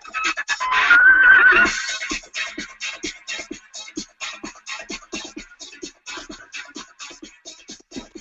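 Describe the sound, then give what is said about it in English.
A horse gives a loud, shrill whinny early on, then a steady run of rhythmic hoof clops continues to the end. No voices. “There's a horse at the end.”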